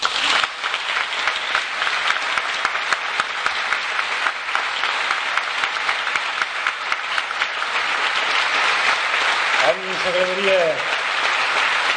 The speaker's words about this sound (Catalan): El jurat del Premi Trinitat Catassús els demana ara un aplaudiment doble, perquè doble també és la nostra alegria a l'atorgar-lo.